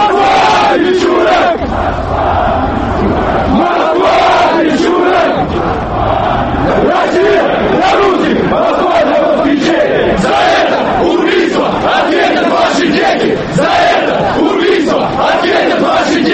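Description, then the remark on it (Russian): A large crowd at an unsanctioned protest on Manezhnaya Square in Moscow shouts together in loud, continuous chanting, many voices overlapping in a dense roar with rhythmic surges of yelled slogans throughout. “Лозунги, которые с самого начала на Манежной площади выкрикивали собравшиеся, уже не имели прямого отношения к гибели Свиридова.”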